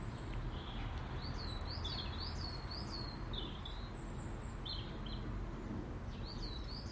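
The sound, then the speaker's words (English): Sparrows chirp in quick, scattered bursts in an apple tree, one chasing another in and out of it, bright little calls repeating over a steady low outdoor rumble on a calm, cold, damp morning after rain, with no one talking. “I'm watching one wee sparrow chase another wee sparrow in and out of the apple tree.”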